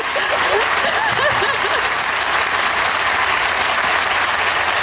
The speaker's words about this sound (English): Crowd loves it.